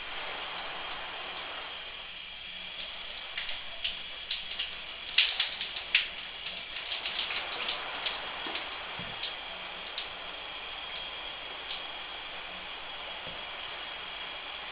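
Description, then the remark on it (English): A shower runs steadily behind a moving shower curtain, recorded on an MP3 player hanging outside the curtain, an even, hissing spray of water with a cluster of soft taps and splashes in the middle before it settles back to a constant rush. “It's hanging outside the shower curtain, but the shower curtain's moving around quite a bit.”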